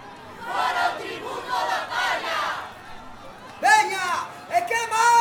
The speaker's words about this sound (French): Depuis la place, la foule indignée a crié de concert.